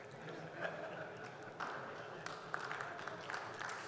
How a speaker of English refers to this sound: Thank you for the applause for the redstone there.